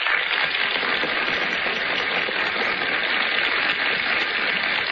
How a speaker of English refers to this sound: A burst of applause greets our stars as they enter the Gulf Theater stage.